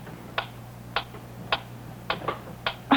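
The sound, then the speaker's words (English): A clock ticks steadily at night, each sharp click evenly spaced about twice a second, with a faint low hum underneath and no voices. “Oh, that clock is getting on my nerves.”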